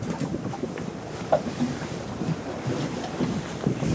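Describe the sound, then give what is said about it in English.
Gentle water laps softly against the side of a boat floating with its engine off, surrounded by ice in Greenland, in a continuous, irregular rhythm, with a light breeze brushing the microphone and no voices present. “The only things I hear are the water lapping at the side of the boat, the breeze, and the sound of my own breath.”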